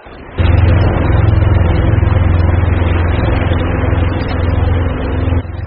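Ship engine noise in the Pearl Estuary, one of the busiest shipping channels in China: a loud, steady engine drone with a heavy low rumble and a constant mid-pitched hum, starting abruptly and holding at an even level before easing slightly at the end.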